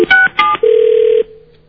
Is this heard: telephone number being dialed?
yes